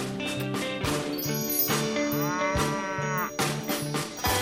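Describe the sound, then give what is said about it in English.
A cow moos loudly, a long, drawn-out low call that wavers in pitch, with light clattering and percussive knocks sounding alongside it. “My cow would even make chocolate milk.”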